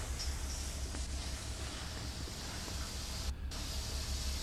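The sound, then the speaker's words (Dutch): A steady, loud hiss of escaping steam over a low mechanical rumble as the engine of a Scheveningen fishing cutter is started with compressed air, continuous throughout with one brief break near the end. No voices. “als de motoren starten, komt wat stoom uit. Dat is een enorme herrie maakt.”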